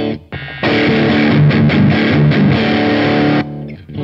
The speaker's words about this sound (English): Some of them are just presets, like the distortion will switch everything over to a distorted channel. So go.